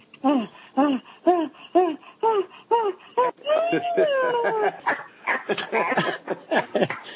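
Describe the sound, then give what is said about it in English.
A woman imitates a dog, letting out a quick, steady run of about eight loud yapping barks, then a drawn-out whining howl, followed by jumbled vocal noises; she is likened to Lassie. “She sounds like Lassie.”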